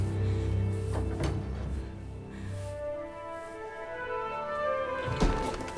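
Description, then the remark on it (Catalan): A woman pushes open the wooden door of her bedroom with a drawn-out, tonal creak, framed by soft knocks of the latch at the start and end. Moderately loud, with no one speaking. “Ella li torna el somriure, s'empassa les llàgrimes i empeny la porta de la seva alcova.”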